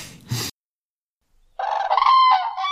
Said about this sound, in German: Das ist der Kranich. Genau.